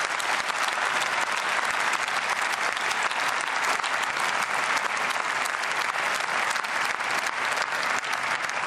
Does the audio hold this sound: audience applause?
yes